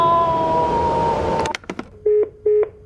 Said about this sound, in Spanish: ¡Mierda, la alarma! ¿Y ahora qué?